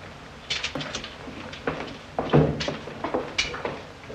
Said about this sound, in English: Sergeant, close the door.